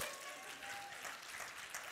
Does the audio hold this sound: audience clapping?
yes